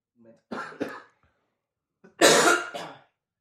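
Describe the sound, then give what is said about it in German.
Two short bursts of throat clearing, a rough double rasp followed after a pause by a louder, longer gravelly clearing, with no talking. “Nach dieser Folge wird es übrigens eine Räuspertaste geben.”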